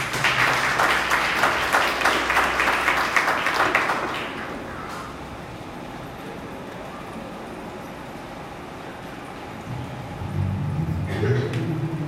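Dense crowd applause with rapid overlapping claps fills the first four seconds, then fades into a quieter murmur; a low rumbling swell returns near the end.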